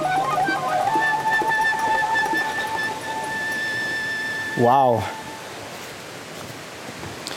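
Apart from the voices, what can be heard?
rushing waterfall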